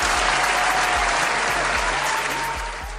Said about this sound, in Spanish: Mientras tanto, un aplauso para el amigo que fue robado porque tiene las pelotas tan grandes que puede decir: hasta ahí lo dejamos. Venga ese aplauso, por favor.